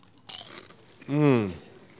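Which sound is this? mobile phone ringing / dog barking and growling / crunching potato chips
crunching potato chips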